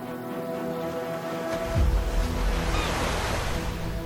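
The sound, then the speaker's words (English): Sea waves wash steadily onto a shore in Gaza at sunrise under a soft, cool sea-breeze hiss, with boats moving up and down and one fuller wave surging in partway through. A faint low hum lingers in the opening seconds. “Boats are moving up and down in the cool sea breeze.”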